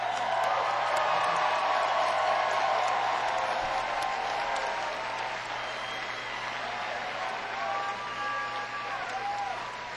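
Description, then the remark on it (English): An audience gives a sustained round of applause for a band's drummer, who has been sick for three days, a dense, steady wash of clapping that runs the whole time, with a few whistles and whoops rising near the end. “I'm gonna ask them to give you a round of applause.”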